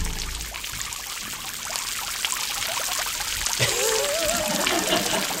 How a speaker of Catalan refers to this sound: Bueno, és que no s'ha provocat el vòmit. Simplement ha regurgitat l'aigua i el peix.